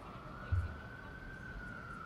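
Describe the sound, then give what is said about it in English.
A steady, sustained fire department siren tone drones on throughout, slowly shifting pitch as the fire engine drives by, with low rumbling background noise and a brief thump near the start. “Somebody's driving by with their siren on. You have to wait a minute. It's a fire department.”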